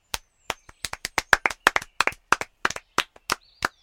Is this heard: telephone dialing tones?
no